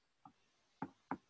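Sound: knocking on a door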